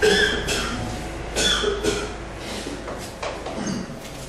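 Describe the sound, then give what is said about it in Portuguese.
A person coughs repeatedly, a series of harsh bursts spread unevenly over a few seconds, with no talking in between. “Assim que passar minha tosse.”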